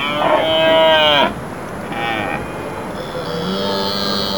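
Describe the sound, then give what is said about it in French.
A red deer stag bellows during the annual rut at the Sainte-Croix animal park in Lorraine, France: three deep, harmonic roars, the first long and loud, followed by a shorter one and a softer, drawn-out final call. “Et oui, c'est ce qu'on appelle le brame du cerf.”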